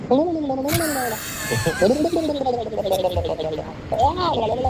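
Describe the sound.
A man's voice imitates a turkey with warbling, gobbling calls: wavering pitch glides and throaty bursts, with sharp hissy breaths between them, for a few seconds.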